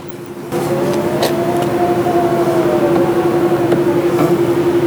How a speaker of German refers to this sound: Ich glaube, das war zu leise. Das war zu leise, aber Achtung, spätestens bei dem Geräusch wissen die Profis Bescheid. Das war laut genug. Genau, es ist ein Model X. Ein Model X, das du zur Verfügung bekommen hast, gestellt bekommen hast